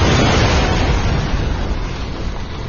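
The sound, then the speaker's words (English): A loud explosion behind a tank erupts at once into a dense, roaring rumble heavy in low booming tones, sustaining for a few seconds and easing only slightly as it fades. No voices. “And then the explosion came from behind the tank.”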